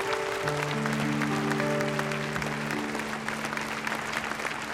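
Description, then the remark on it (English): A large audience claps steadily and loudly throughout after a presentation, a dense wash of applause, while sustained organ-like tones hold underneath. “Wonderful applause.”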